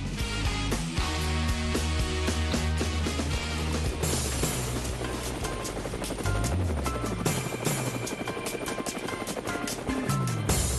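A helicopter's rotor blades spin loudly, a rapid, steady chopping thud over a droning engine whine that holds for the whole stretch.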